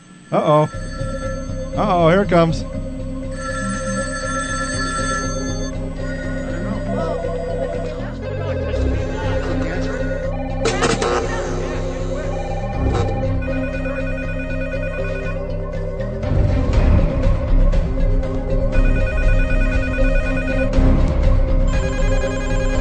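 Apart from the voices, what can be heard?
telephone ringing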